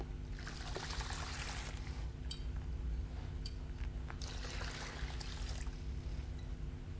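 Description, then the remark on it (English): Water is poured into a basin, trickling steadily for several seconds in a continuous splashing, gurgling stream at moderate volume, with a low background hum and no voices. “And Peter refused, because the creator of the universe was going to get down on his creator of the universe, Jesus, the Messiah, the Holy One, got on his knees as a servant and poured water into a basin.”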